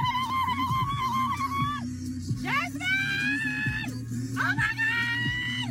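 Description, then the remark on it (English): A mother driving a car screams in panic after a bee flew in and landed on her daughter's face: three long shrill cries, each swooping up in pitch before holding, loud over the steady low rumble of the moving car's interior. “My mother is just …, screaming.”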